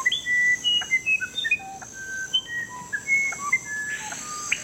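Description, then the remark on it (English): Clear, pure bird whistles in a varied melodic song, notes jumping between pitches in quick succession, over a steady high insect-like drone of a rainforest background; no voices. Rainforest birds: whistles of the screaming piha and melodies of the musician wren. “And there's diversity in sound, too, from the wide-ranging whistles of the screaming piha to the otherworldly melodies of the musician wren.”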